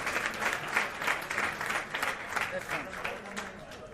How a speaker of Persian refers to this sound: دوستانی که نشستن خودشون رو تشویق کنن.